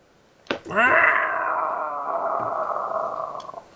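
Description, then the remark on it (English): A person lets out a loud, strained screeching wail in imitation of a pterodactyl, starting abruptly and holding a harsh, high cry for about three seconds before it trails off. “You criticize me for burping, and then you make a fucking pterodactyl noise in the middle.”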